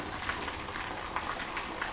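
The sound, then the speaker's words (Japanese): A small riverside waterfall with a Fudō Myōō statue standing above it trickles steadily, a continuous splashing, babbling wash of water with no pauses and no voices over it. “川の音かと思いきや、みんな聞こえるかな、これちょろちょろちょろちょろ出てんのは、これが轟いたという滝ですね。”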